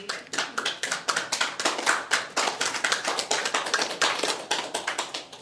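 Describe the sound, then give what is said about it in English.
A small audience claps steadily for several seconds, a dense, even patter of many hands at moderate loudness with no voices on top, applauding in thanks to a man who had filled in as speaker the week before. “Your wife did not even try to applaud for you.”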